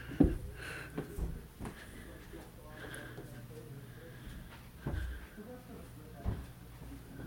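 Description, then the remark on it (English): A squeaky bathroom door moves with a few soft thumps and bumps, its faint creaking drawn out over several seconds amid low rustling. “That's the squeaky bathroom door.”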